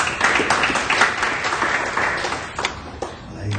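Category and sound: crowd, audience hand clapping applause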